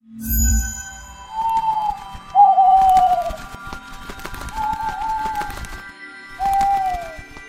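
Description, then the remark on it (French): Four drawn-out, slightly falling cooing calls from birds in an aviary, evenly spaced and moderately loud, over a busy background of soft rustling and thumps. “Et du coup, je vous invite à partir de la grande salle et à se diriger vers la volière.”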